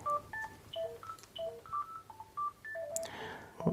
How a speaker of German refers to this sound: Oh, Entschuldigung, da klingelt gerade ein Telefon.